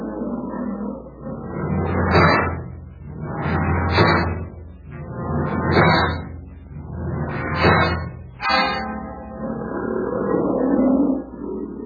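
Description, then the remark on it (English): A lion lets out a run of deep, rough grunts, about six heavy pulses in a steady rhythm. Each swells and fades before a final drawn-out rumble, with no voices. “Sounds like an old timer. Listen to those grunts.”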